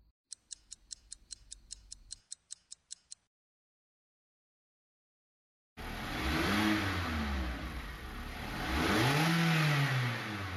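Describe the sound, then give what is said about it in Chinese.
A car stuck in a traffic jam on a road trip: its indicator ticks steadily over a low engine hum, then after a brief silence an engine roars loudly, its pitch rising and falling as it revs. No one speaks. “自驾游就是舒服，自由自在的，想怎么玩就怎么玩”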